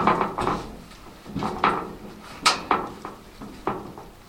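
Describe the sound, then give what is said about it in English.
A heavy culvert bear trap door being opened from above with a lever to release a bear cub, a run of irregular clanks and scraping knocks, with one sharp bang partway through and no voices. “Lowell opened the trap door from above.”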